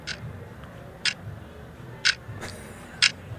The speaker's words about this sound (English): Today we're going to be talking about time. T-I-M-E, as in the tick of a clock.